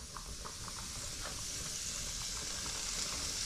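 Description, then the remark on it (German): Steady sizzling of food frying in a hot oiled pan, a dense crackling hiss with small pops scattered throughout, continuous for a few seconds with no voices. “Fett, Öl, Pfanne. Ja, sieht gut aus. Hauen wir mal rein.”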